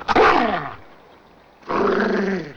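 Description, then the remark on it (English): A dog growls twice, a deep, rumbling snarl lasting under a second, then a short pause before a second, longer growl. No one speaks. “I wouldn't touch that dog, son. He don't take to petting.”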